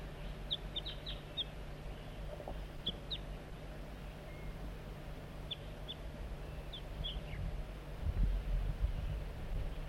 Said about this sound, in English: Bird 4-3 coaxing the juvenile in with soft flight calls. Sound a little bit strange.